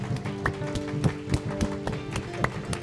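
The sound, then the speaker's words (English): A soul clap: steady rhythmic hand clapping, a run of crisp, evenly spaced claps about three per second, over a faint sustained tonal hum with no talking. “Give me a soul clap. You know what a soul clap is? It's like this.”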